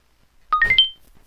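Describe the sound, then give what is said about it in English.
A short rising electronic chime of four quick tonal beeps stepping upward in pitch, clear, made by a phone's screen-reader software starting up after the phone connects to a computer, with no voices. “Okay, we get a connection from the phone. I'm going to wait for talks to come up. And that's its little noise, I believe.”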